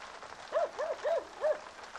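A dog barks four times in a quick, uneven run at visitors arriving, each bark short and moderately loud against a steady hissing background, with no one talking.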